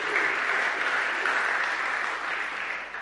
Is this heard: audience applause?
yes